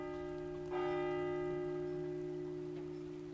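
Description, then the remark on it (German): Steady rain hisses softly and continuously over a cemetery in Tenja near Lago Maggiore on a Sunday in September, heard from under the arch of a columbarium, while a single loud bell strike rings out and its tone slowly fades. No one speaks. “Ich stand unter dem Rundbogen des Kolumbariums, um mich vor dem Regen zu schützen.”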